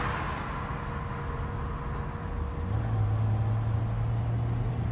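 car driving

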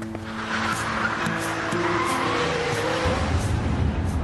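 car driving fast

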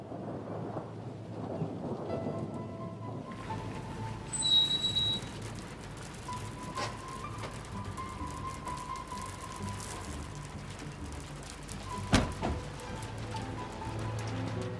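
rain falling

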